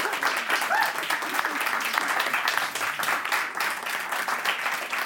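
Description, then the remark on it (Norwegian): An audience applauds steadily, a dense wash of many hands clapping at an even level throughout, with a brief faint cheer or voice rising above it early on. “Gi dem en applaus.”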